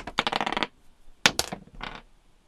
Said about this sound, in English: Serotonin Satellite just asked for the dice roll. I got you, Serotonin. I just did it.